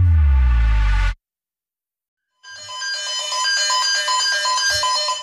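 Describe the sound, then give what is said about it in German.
A loud electronic alarm sounds: a brief harsh tone, a pause, then a sustained, rapidly pulsing siren-like beeping from a burglar alarm system set off when an employee entered the wrong code, continuous with no talking. “Das sieht aus, wenn die Alarmanlage losgeht.”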